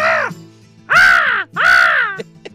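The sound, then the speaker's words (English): An American crow caws loudly three times, harsh, each call a drawn-out descending squawk with short pauses between, followed by a couple of faint clicks. “That cawing of a crow.”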